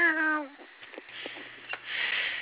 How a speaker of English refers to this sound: I heard cats out here